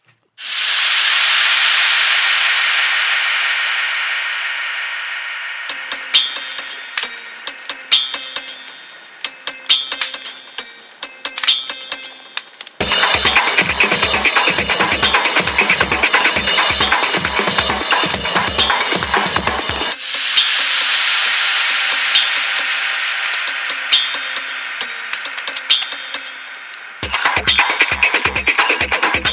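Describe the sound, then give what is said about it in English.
A harsh electronic soundtrack composed by a research team to match spiciness and enhance the perceived spiciness of food: loud sizzling hiss alternates with sections of rapid, pulsing beats, deep thuds and bright, piercing tones. No voices. “Steve and his team composed the soundtrack that's supposed to match with spiciness.”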